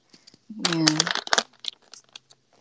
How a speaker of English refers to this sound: I'm just gonna grab whatever scraps there is, like pieces of paper.